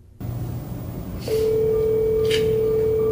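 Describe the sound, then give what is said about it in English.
Telephone tones before Kamala Harris's videotaped phone call to the governor she asks to be her running mate: after a brief low rumble, a single steady electronic phone tone switches on and holds unbroken to the end, clear, with a soft hiss passing over it. “And how in the world could Kamala's people, for someone who's so radical, so left-wing, so Marxist in his thinking, how could you then stage another scripted, videotaped phone call as cringeworthy as the last one was?”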